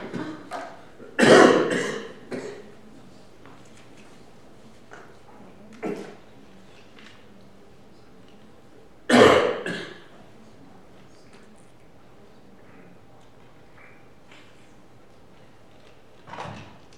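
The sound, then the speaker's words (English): Someone coughs and clears their throat: two loud, harsh coughing bursts several seconds apart, with a few softer throat-clearing sounds scattered between them. No one speaks. “You want to cough, …?”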